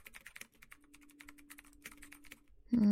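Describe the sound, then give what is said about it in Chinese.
Rapid, irregular clatter of fingers typing on a computer keyboard at home late at night while working on documents, fairly quiet over a faint steady hum, cut off at the end by a sudden loud tone. “没听到我敲键盘的声音吗？”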